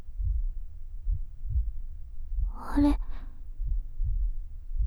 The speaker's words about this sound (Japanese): 心臓の音すごくドクンドクンってしてる。おかしい。